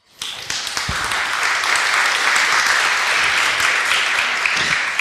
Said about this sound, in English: So please give a very kind applause